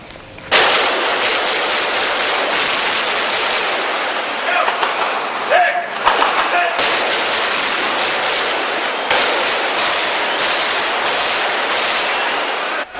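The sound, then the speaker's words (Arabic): Sustained bursts of medium-weapon gunfire crackle almost continuously, loud and harsh with dense rapid reports and brief lulls, as the Lebanese Army returns fire with medium weapons on gunmen at the Bab al-Tabbaneh, Shaarani and Baqqar fronts in Tripoli, Lebanon. “رد الجيش اللبناني بالأسلحة المتوسطة على مصادر النيران عند محاور باب التبانة والشعران والبقار، بعدما أنذر المسلحين بالرد على عمليات القنص.”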